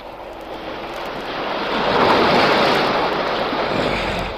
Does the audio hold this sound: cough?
no